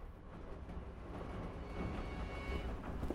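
Steady low rumble of a train carriage rolling along the rails, a continuous close-up drone with faint rhythmic rattling and no voices.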